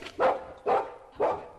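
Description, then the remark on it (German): A dog barks three times in an even rhythm, each bark sharp and fairly loud, with short quiet gaps between them and no one talking. “Das ist kein Wolf. Es ist ein Hund.”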